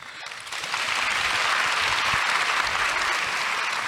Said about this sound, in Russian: У вас, видите, как легко можно заработать аплодисменты. Поздоровался, уже хлопают. Это приятно.